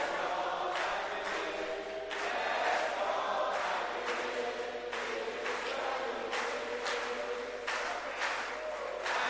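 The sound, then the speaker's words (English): An audience claps together in a dense, steady burst of applause that holds at an even loudness for about nine seconds, with a faint murmur of voices mixed underneath. “You are clapping like hungry people.”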